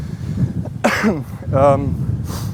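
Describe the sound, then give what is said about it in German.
A couple of harsh coughing bursts in quick succession, followed by a brief throat-clearing rasp, over a low background hum. “Auch gut zu husten, wenn man gerade über Corona spricht.”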